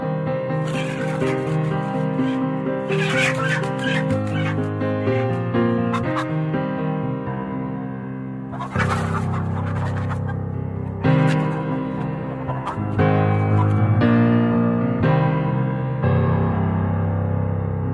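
A steady, upbeat instrumental song carries chicken-like clucking and squawking sounds woven through the music, loud and continuous from start to finish with no one talking.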